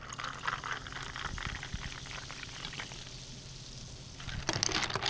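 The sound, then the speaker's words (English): Club soda pours into a glass with a steady, crackling fizz. It hisses softly throughout, then grows louder and splashier near the end. No one speaks. “We like the club soda for that carbonic bite.”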